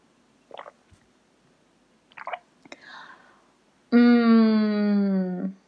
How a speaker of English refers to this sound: Yeah, I feel like I need a drink of water. Give me a sec.